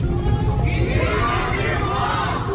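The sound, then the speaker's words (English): Hundreds of street protesters in Beijing, by the Liang Machao River, fill the air with a steady, loud roar of many voices shouting and chanting together outdoors as they walk through the streets, dense and continuous throughout. “There were hundreds of protesters, and they were on the move.”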